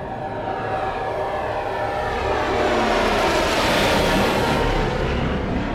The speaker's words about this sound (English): A squad of 6 Imperial fighters, bent-wing interceptors, zoomed overhead, the hum of their engines drowning out and throttling Zerid and Eren's laughter.